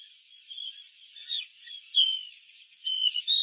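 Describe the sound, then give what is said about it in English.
High, thin bird chirps repeat in short bursts every second or so, fairly soft, heard over a live nest camera on a puffin burrow, with no talking and a quiet background. “I'm hearing chirping.”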